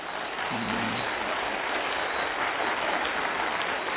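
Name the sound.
audience clapping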